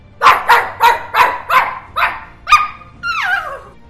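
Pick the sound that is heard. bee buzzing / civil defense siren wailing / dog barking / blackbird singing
dog barking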